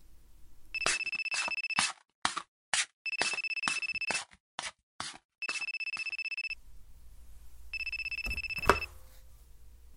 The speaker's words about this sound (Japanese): ん？僕の携帯鳴ってる？